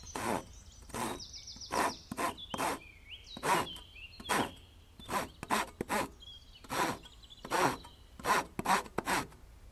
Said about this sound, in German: Kannst du hier mal festhalten? Ich möchte hier ein Brett absägen.